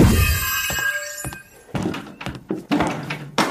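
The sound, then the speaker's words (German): A chair topples over: a scraping clatter followed by several loud, hollow wooden thunks and knocks in quick succession as it hits the floor and settles. “Ups, der Stuhl.”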